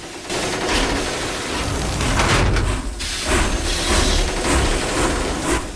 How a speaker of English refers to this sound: Coal is shuffled into the locomotive's boiler, and slowly, its wheels begin to turn.